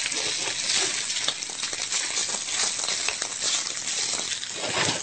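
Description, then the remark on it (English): Seitan browns and sizzles steadily in a hot pan, a dense, bright crackling hiss with scattered sharp pops and spits, loud and continuous throughout with no voices. “Nothing like the sizzle of something cooking in your pan there.”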